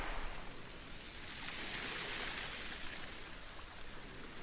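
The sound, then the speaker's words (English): Soft, steady wash of sea waves, a hissing surge that swells gently in the middle and eases back again, with no voices. “You might notice the connection between the sound of the sea and the sound of your own breath as it comes in and retreats.”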